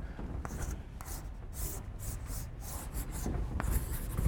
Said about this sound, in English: So let me draw the train first. Not very good artist, but